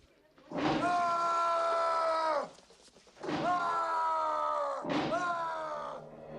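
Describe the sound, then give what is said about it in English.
A man screams three times in long, strained bursts, each one loud and harmonically rich and sliding down in pitch at its end, with only brief pauses for breath between them. “Hearing the screams, Joe smiles and nods to himself.”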